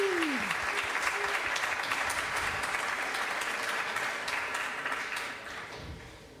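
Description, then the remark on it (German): Sustained audience applause for children, a dense wash of many hands clapping at steady loudness that gradually tapers off toward the end, with a brief descending tone at the start. “Ich finde, wir kriegen, machen nochmal einen dicken Applaus für die Kinder.”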